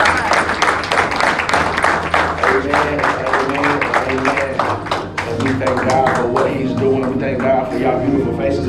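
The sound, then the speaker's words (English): A crowd claps steadily and loudly throughout, a dense patter of hands that holds for several seconds while voices call out and speak over it. “Give yourself a round of applause.”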